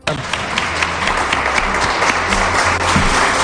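An audience applauds steadily, a dense wash of many hands clapping at an even loudness for a few seconds, with no one speaking over it.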